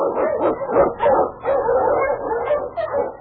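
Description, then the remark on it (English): Husky sled dogs bark and yelp in a loud, nearly continuous flurry of overlapping calls, with no one speaking, in the radio show The Challenge of the Yukon. “Unchain! On your husky!”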